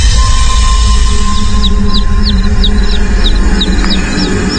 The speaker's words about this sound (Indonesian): Sampai aku mendengar suara anak ayam.